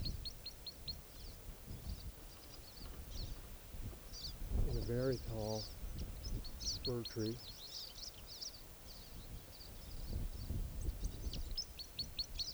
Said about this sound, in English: I think I hear Crossbill's song coming from the grove where I heard it on the road before. I'm gonna go over there and see if I can get recordings. Definitely Crossbill's song coming from the roadside. I don't see the bird.